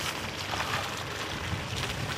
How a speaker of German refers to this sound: Am Rande des geräumten Parkplatzes liegen schon kleinere Schneehaufen, aber das Flockenknirschen, das fehlt. Die knirschen nicht, sie klingen eher wie Wasser, wenn die Autos drüber fahren.